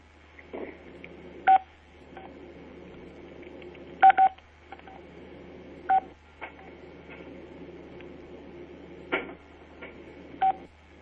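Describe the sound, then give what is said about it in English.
Several short, bright telephone keypad tones beep at irregular intervals on a telephone conference call line, a couple in quick pairs, each standing out loudly over a steady, murmuring line noise. “One can mute the telephones by pressing 6.”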